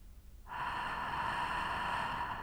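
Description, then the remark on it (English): A steady, hissing breath drawn through the nose with a soft throat friction during a breathing exercise begins after a brief pause and continues evenly, fairly loud, with no talking. The friction noise stays the same on both inhaling and exhaling. “The friction noise remains the same, both when inhaling and exhaling.”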